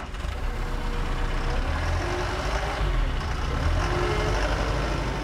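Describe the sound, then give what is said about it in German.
Heavy diesel engines of a wheel loader and a tractor with trailer rumble steadily on a farm, a dense low-pitched drone with mechanical clatter as the machines idle and set off together through the village. No voices are heard. “Udo steuert den Radlader, Marco den Trecker mit Anhänger.”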